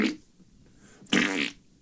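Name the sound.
fart noise sound effect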